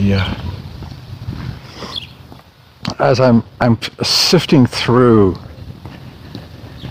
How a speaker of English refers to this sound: Yeah, my brain is going a mile a minute, and I apologize because what you're hearing is footsteps and bird song.